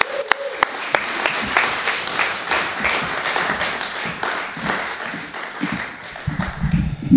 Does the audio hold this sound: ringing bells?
no